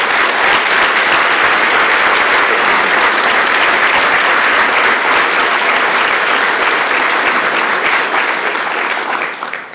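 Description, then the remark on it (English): Sustained, loud applause from a large crowd for a former school board president, a dense wash of many hands clapping steadily for nearly ten seconds before easing slightly at the end. “If you would stand, and if we could give you a round of applause for the work that you do on behalf of our children.”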